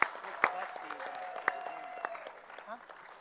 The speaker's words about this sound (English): Just in case he's listening out there, let's have one more huge round of applause for Ed Branch.